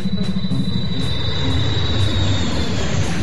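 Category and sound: vehicle, airplane in flight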